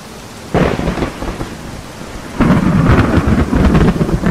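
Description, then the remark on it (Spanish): Steady rain pours down on the town of Capernaum during a storm with wind, lightning and hail, while deep rolls of thunder rumble in, a first boom around half a second and a louder, longer roll building near the end, with no voices. “Se han adueñado de ella viento, lluvia, truenos, relámpagos y ahora el granizo.”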